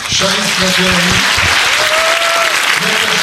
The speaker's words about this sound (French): Rassemblés au théâtre de la Maison du Peuple à Pierre-Bénite près de Lyon, 270 lycéens venus de toute la région acclament le premier panel d'auteurs.